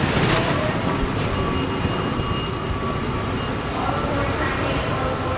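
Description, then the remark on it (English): A Long Island Railroad commuter train, which runs east of New York City, rumbles steadily inside its terminal early in the morning, with a dense low roar, faint metallic wheel squeal and a few thin high tones ringing above the continuous noise. “That's the commuter train that runs east of New York City.”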